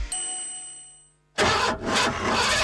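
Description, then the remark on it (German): A fading electronic chime rings briefly, then a loud, rough car engine cranks in two bursts, sputtering and failing to start. “Das Auto geht nicht.”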